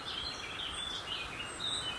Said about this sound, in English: Although the roar of the Beck below, which is getting a bit more dramatic as we head down the valley, is quite loud, the birds are really overshadowing that and providing quite a cacophony of sound, as you can probably hear in the background.